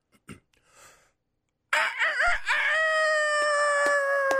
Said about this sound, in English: …, the rooster noise, please